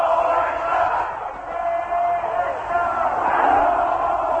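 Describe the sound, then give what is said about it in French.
A huge crowd in Tehran on 1 February 1979 roars and shouts continuously around Ayatollah Khomeini's Range Rover on his return from exile, a dense wall of many voices that swells and dips over a few seconds, loud and chaotic. “Dans ce mur de foule, la Range Rover de l'ayatollah Khomeini cherchait à se frayer un chemin.”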